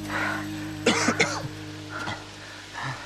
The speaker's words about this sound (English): pulls up and struggles to catch his breath.